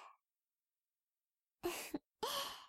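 Soft breathy exhales blown into the listener's ear to warm it and relax it, two airy puffs after a brief faint one, sounding warm and intimate with no talking.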